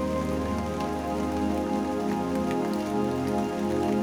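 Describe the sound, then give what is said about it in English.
Steady rain patters on a roof, with scattered droplet ticks over a continuous wash and a low, sustained tonal hum underneath. No one speaks. “The pitter-patter of rain on the roof.”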